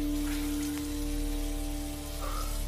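Water runs and splashes steadily at a bathroom sink as a man splashes water on his face, a continuous hissy wash with a faint low hum beneath it and no voices.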